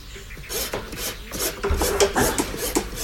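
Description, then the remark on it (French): A farrier rasps a horse's hoof in steady, repeated strokes, each a harsh scraping burst with a gritty, hissing texture, about six strokes in a few seconds with no voices. “Pour soigner leur colosse au pied d'argile, les cavaliers ont un réflexe, appelé un maréchal ferrant.”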